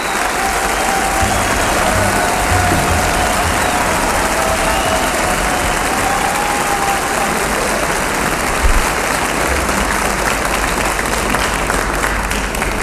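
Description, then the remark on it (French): A concert audience applauds steadily at a piano concert with a Steinway piano on stage, as a singer addresses the audience in French. A dense, even wash of many hands clapping holds at full strength for the whole stretch, with a faint murmur of the crowd underneath. “qui s'adresse en français au public, le tout ponctué d'applaudissements.”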